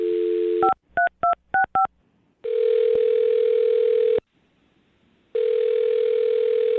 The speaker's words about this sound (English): All right, well, I'm going to dial her phone number right now and see why she's not getting back to you, okay?